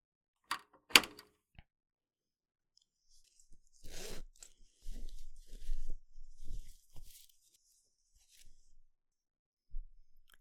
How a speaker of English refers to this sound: Just let me lock the door.